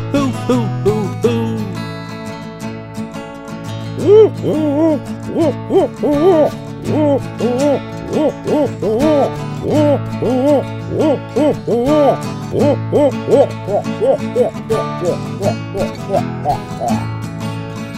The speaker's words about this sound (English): Now when the owl hoots, some people say it sounds like they're saying something.